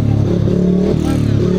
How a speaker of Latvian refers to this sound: Motociklu rūkoņa pilnas stadiona tribīnes un skaļas ovācijas ir tas, kas jau tradicionāli piepilda spīdvejs sacensības Daugavpils